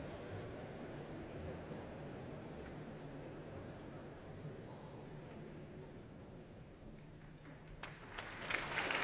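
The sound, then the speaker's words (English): Steady applause from a large audience at the Royal Albert Hall for conductor Andrew Litton and the Royal Philharmonic Orchestra, performing Percy Grainger's Blithe Bells, a dense, continuous patter of many hands clapping, with a few sharper claps rising near the end. “Applause for Andrew Litton, who conducts the Royal Philharmonic Orchestra in Percy Grainger's Blithe Bells.”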